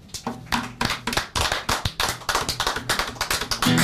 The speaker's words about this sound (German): Vielen Dank. Fetten Applaus für euch.